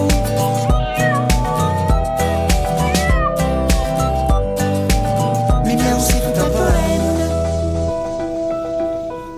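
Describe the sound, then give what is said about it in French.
Repeated cat meows ring out over a loud, dense musical backing, prominent, with rising and falling cries spread across the whole stretch before the music thins near the end. “Mes miaou sont pleins de je t'aime.”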